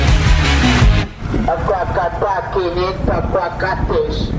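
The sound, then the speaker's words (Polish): Loud street traffic in Medellín roars for about a second, then a person starts talking while the steady hum of passing cars and motorbikes carries on underneath, the air thick with exhaust fumes. “Czuć bardzo dużo spalin, powietrze nie jest czyste, no ale tyle motorów i tyle samochodów.”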